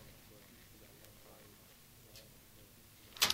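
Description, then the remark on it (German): A 20-minute cassette tape is flipped over to its second side: after a stretch of faint hiss and low murmur, a sharp plastic clack and brief rattle sound at the very end. “So, nach dieser ersten Seite des Kommune-Beitrags, der geschickterweise ein 20-Minuten-Beitrag auf eine 20-Minuten-Kassette getan worden ist, kommt jetzt also, nachdem wir sie umgedreht haben, die zweite Seite dieses Beitrags.”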